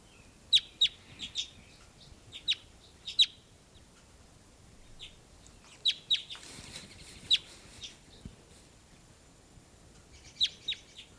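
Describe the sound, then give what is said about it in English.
A captive female bird, heard in playback, gives loud, sharp, high-pitched calls in short clusters of two or three, repeating every second or two over a low, steady background hiss. “Just played her back, and here's her louder calls.”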